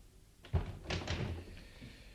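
A door opens with a solid low thunk, followed by a short burst of rustling, scraping movement as someone comes in; no one speaks.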